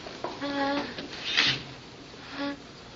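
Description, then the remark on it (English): A wooden table squeaks twice as it rocks during a Bible reading, each a short tonal creak, with a brief scraping rustle between them, moderately loud. “This table makes a squeaking noise when it rocks.”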